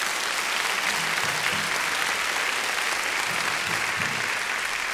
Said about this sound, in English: And you can go ahead and give them a round of applause. I think they really deserve it.